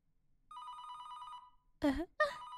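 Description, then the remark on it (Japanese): A telephone rings with a steady, trilling electronic tone that starts abruptly and holds for about a second, the 49th unanswered incoming call from the same number, followed by a speaking voice. “49回目だ。まだまだまだまだ電話は出てあげない。”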